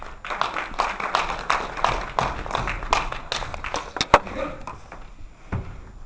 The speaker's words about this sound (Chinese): 下面呢，让我们以热烈的掌声欢迎尹树鹏先生为我们做讲座。